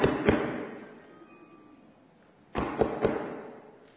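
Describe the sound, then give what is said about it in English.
Two sharp knocks on a wooden door at the top of a mountain, a pause of about two seconds, then three more in quick succession. Each blow is loud and hollow, with a lingering ringing decay and no voices. “It sounded as though someone had knocked on the door, but no one we knew would be up there.”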